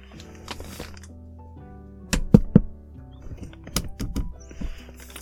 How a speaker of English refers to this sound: I had to find some wood. I guess I could have knocked on the door.